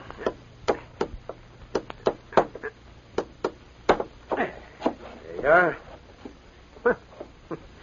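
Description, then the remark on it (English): Hammering a tack into a wall to put up a handbill: a run of sharp, dry knocks, some single and some in quick pairs, striking at an uneven pace. A short voiced sound briefly rises between the blows. “Hey, give me the hammer and tack.”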